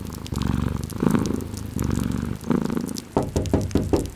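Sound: cat meowing and purring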